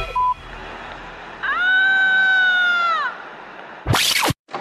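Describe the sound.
A woman lets out one loud, high-pitched scream at 22:03 at night on Carrer Valladolid in the Sants neighbourhood of Barcelona, holding steady for about a second and a half before sliding down at the end, followed by a short burst of harsh noise.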